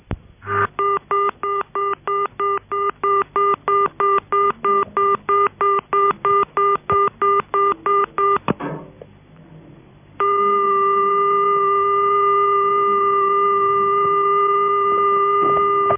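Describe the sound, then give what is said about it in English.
A telephone pay tone sounds as a rapid, evenly spaced string of loud electronic beeps for several seconds, falls briefly quiet, then gives way to a steady, unbroken tone until the end. No one speaks. “It is usually 400 Hz, as in this example, but occasionally modulated similar to the ringing tone.”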